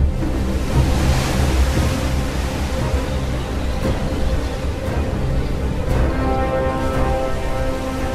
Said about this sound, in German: In der Nacht gibt es dann Sturm und Wellen so hoch wie Einfamilienhäuser.